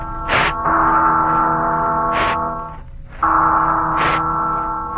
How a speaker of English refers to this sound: Listen, it's the Freedom Bell. Aye, the Freedom Bell, my friends. And this is Paul Revere, called back from the shadows by the sound of the Freedom Bell, to cry again a warning that the price of freedom is eternal vigilance.